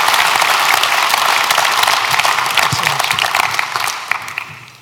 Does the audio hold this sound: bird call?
no